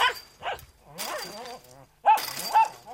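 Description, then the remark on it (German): A poodle hanging on the wire fence of a house garden barks at a passer-by in a quick series of sharp, high yelps, some with a whiny edge. Short pauses separate the bursts, and a louder pair of barks comes near the end. “Er hängt am Drahtzaun. Sobald jemand vorbeikommt, bellt er.”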